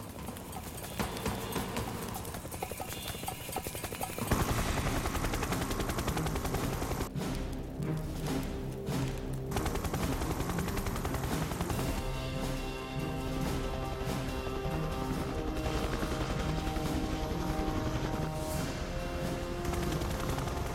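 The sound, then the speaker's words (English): A helicopter approaches over a large signal fire with a plume of smoke in the jungle, its rotor chopping out a rapid, steady thump that stays loud for the whole stretch, with a layered musical score running underneath. “With the chopper getting close now, there's a good chance a pilot will spot this.”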